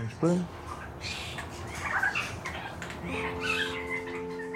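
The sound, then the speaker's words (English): A young songbird in an aviary practices its song, giving short squeaky chirps and rambling warbles over steady background noise, with a sustained buzzy tone joining near the end. “I go in with a microphone and follow birds around the aviary as they practice their song.”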